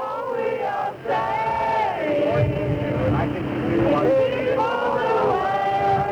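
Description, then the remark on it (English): A large crowd of environmentalists chants and sings together outdoors outside the International Whaling Commission meeting in Brighton, England, waving flags in support of the whales, a steady, loud mass of voices with rising and falling melodic shouts continuing throughout. “For a week, a constant crowd has stood outside the meeting of the International Whaling Commission in Brighton, England, chanting, waving flags, showing their support for the whales.”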